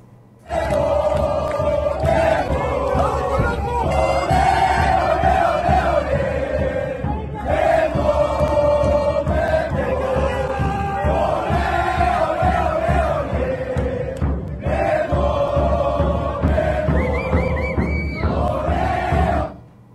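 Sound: crowd cheering and applauding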